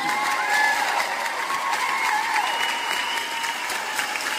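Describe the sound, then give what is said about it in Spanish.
A crowd applauds steadily for several seconds, dense clapping with some cheering whistles and shouts rising over it, fairly loud and sustained without pause. “Que nos vamos a cansar de los aplausos, hombre.”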